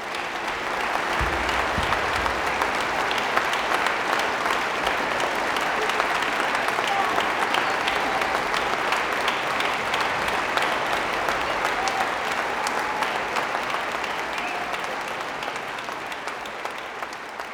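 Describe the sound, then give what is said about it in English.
A crowd of thousands applauds a soloist and ensemble steadily in a reverberant concert hall after the final notes, a dense wash of clapping with scattered cheers that holds strong for the whole stretch and eases slightly toward the end. “The final notes shimmer in the hall as the crowd cheers the soloist and the ensemble, thousands of individuals who, for an evening, are united by the experience.”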